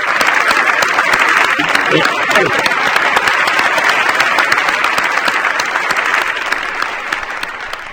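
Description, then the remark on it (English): Sustained applause from an audience at Archbishop Desmond Tutu's speech to the GLBT community in San Francisco on April 8th fills the whole stretch, a dense wash of many hands clapping at steady loudness, easing off slightly toward the end, with faint voices mixed in. “Would you be willing to join me in clapping you?”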